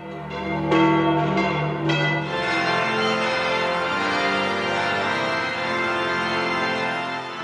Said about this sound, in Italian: Trenta secondi. Tanto suonano le campane della Basilica Vaticana all'annuncio che Cristo è risorto.